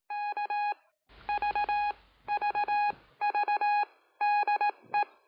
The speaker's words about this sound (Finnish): Tässä ohjelmassa kuultavat morsetusviestit ovat Seppo Rajamäen ja Veikko Pulkkasen käsialaa. Ne ovat rekonstruktioita Viimalaivan ja Kotkaradion käymästä viestiliikenteestä vuonna 1953.